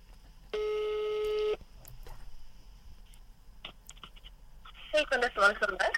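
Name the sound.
telephone call ringing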